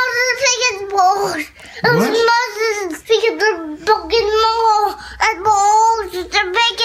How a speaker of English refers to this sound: this is a great toddler that I found on YouTube that is really emphatic trying to say something at bath time